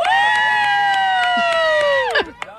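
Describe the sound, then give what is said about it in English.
A loud, drawn-out cheering yell from the sidelines of a flag football game after a touchdown, held for about two seconds before trailing off, with steady rhythmic clapping beating underneath and a few scattered shouts. “only moment is acceptable is this. Wesley! Just clapping at his name.”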